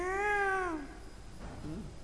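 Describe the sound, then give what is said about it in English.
A voice imitates a peacock's cry: one loud, drawn-out wailing call that bends downward at the end, then a faint, brief murmur. “Kokila singing, peacocks crying.”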